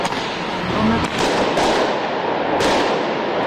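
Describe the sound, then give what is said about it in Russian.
Protesters in Tbilisi, Georgia, fire fireworks in rapid machine-gun-like bursts against tear gas and water cannons: a string of sharp, loud cracks and bursts over a dense, continuous roar of crowd noise, with a few standout bangs spaced irregularly through the scene. “Пулеметы из фейерверков против слезоточивого газа и водометов.”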